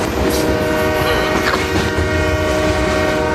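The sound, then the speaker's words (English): A train horn blares steadily over the loud, continuous rumble of a rolling train, the sound dense throughout, with no voices present. “You just like my train. Yeah. Choo choo.”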